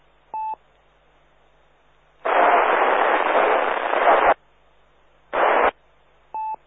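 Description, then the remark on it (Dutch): A faint radio transmission lost in hiss: a long burst of loud static and a shorter one, bracketed by brief electronic beeps at the start and end, with no clear voice coming through. “Dat zit heel, heel diep in de ruis en ik kan er niks van maken.”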